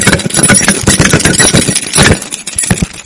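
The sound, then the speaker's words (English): A small set of two keys jangled and shaken for about three seconds, a loud, continuous bright metallic rattle with quick irregular clinks and no voices. “they turned aside unto vain jangling. I used to carry a whole mess of keys.”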